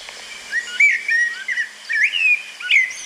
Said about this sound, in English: Yes, that's the blackbird. Beautiful sound, low pitched